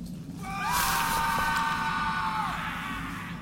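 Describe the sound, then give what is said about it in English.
A single long, high scream used as a lure rises and holds for about two seconds before fading, with a steady low rumble underneath and no one speaking. “It is a lure. That is the exact same scream I hear made last time.”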